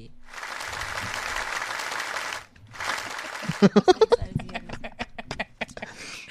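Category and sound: crowd, round of applause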